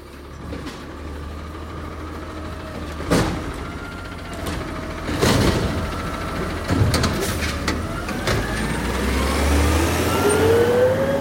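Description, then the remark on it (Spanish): A garbage truck rumbles steadily while it lifts a trash bin at the door of a house, with two sharp metallic bangs early on and a rising hydraulic whine building toward the end. No one speaks. “vamos a escuchar el camión de la basura como levanta un tacho acá en la puerta de mi casa”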